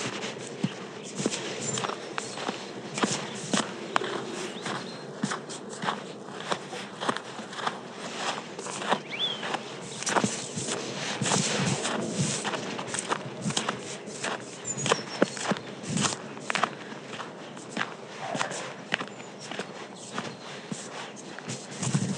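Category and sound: human body sound, footsteps walking outdoors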